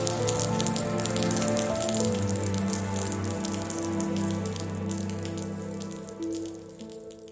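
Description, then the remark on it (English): Steady rain that has just started falling during preparations for a commencement ceremony, a dense patter of drops over a low, continuous rumble, filling the whole stretch evenly with no voices. “Right now it's solemn because it just started raining and everybody is trying to stay dry.”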